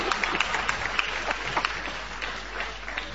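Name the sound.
audience applause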